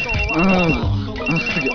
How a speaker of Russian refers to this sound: Телефон, бля, сука.